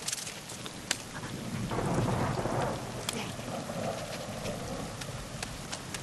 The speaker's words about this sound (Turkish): Tam palamudu bırakacakken yıldırım çarptı.